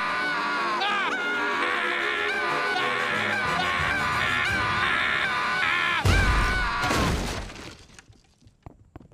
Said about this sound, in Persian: ازتون میخوام جیغ نکشید، چون صدای بلند اعصابمو خورد میکنه.